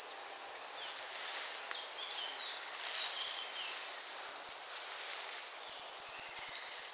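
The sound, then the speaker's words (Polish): A wart-biter bush-cricket, 2.5 to 4.5 cm long, gives a steady, rapid ticking call, a long even run of high, dry clicks repeating about ten times a second, alone with faint background insects. “Cykanie, tykanie właściwie.”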